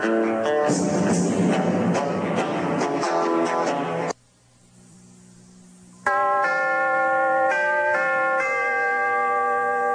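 Loud chimes ring out in a bright, dense cascade of sustained tones, fall briefly quiet, then resume with clear, layered ringing notes that hang in the air.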